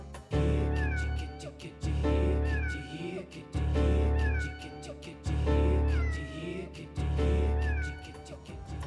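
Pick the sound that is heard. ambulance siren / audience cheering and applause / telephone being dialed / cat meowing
cat meowing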